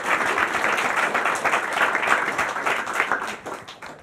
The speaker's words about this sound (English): So well done on that. Yeah, round of applause for this man. Cheers.